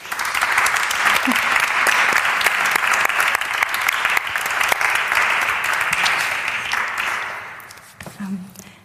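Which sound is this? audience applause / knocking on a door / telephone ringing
audience applause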